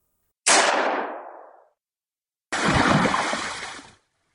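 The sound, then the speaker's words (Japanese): A single loud gunshot cracks out at a river as a woman boards a boat, with a sharp onset and a fading, echoing tail, followed after a short pause by a second, longer burst of broad noise. “一発の銃声。”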